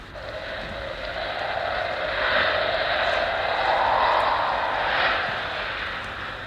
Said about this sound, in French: Oh, il y a beaucoup de vent. Écoutez-le chanter.